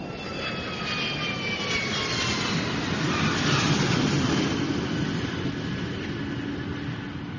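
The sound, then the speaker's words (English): Loud, steady roar of a jet airliner's engines as the plane lands in England, with high turbine whines slowly sliding downward in pitch, no voices, continuous throughout. “A blizzard blew up shortly after the plane landed in England, knocking out the airport's power supply.”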